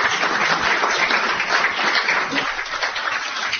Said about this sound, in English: A round of applause, please, from the audience.